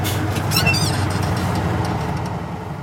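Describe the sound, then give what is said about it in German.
A vehicle drives off toward an enclosure, its engine humming with a steady, low rumble and holding an even loudness throughout, with a few brief high-pitched squeaks early on. “Und dann fahren wir.”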